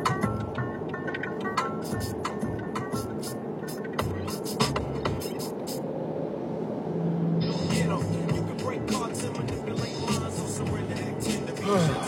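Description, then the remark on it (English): Steady, loud road traffic rumble with deep engine drone from trucks driving, one behind and one slow one in front, with scattered sharp clicks and rattles and muffled voice-like sounds mixed in; the roar swells slightly in the second half. “Alright, this truck behind me is going, the truck in front of me is going too slow, and it's time to go.”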